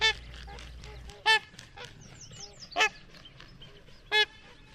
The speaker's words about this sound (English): You might also catch a glimpse of our trumpeter swans.